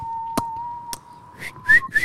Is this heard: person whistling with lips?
yes